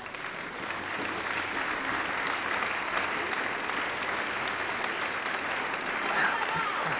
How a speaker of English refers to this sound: Man, that is good. I got to clap. Boy, I got to clap that one right there up for real. Wow.